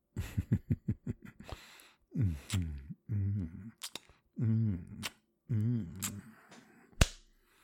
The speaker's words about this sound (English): Oh, you like these little clit slaps? You are so sensitive.